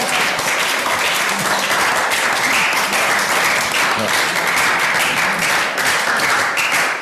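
Sustained audience applause fills the room, a dense, steady patter of many hands clapping at once, loud and continuous for several seconds with no pauses.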